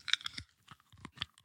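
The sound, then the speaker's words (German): Crunchy chewing on a grasshopper: a few crisp, bright crackling bites in an irregular rhythm, separated by brief pauses, with low mouth sounds underneath and no talking. “Heuschrecke rumkaue, denke ich mir so, ja, kann man machen.”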